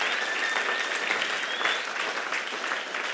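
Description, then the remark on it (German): A crowd claps loudly and steadily for two people, a dense, continuous wash of applause that holds its level from start to finish, with a thin high whistle or two rising above it. “aber gebt ihnen zwei mal einen richtig fetten, lauten Applaus.”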